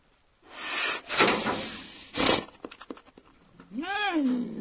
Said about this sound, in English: The little black bear cub didn't make much noise as it pawed at the door of the trap, a large section of culvert pipe with a metal grate on one end and a door on the other. Just a few huffs and some jaw snapping, occasionally a very faint whine.